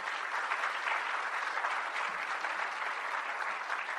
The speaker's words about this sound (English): Let's have a round of applause for our chairman, Ed Cox.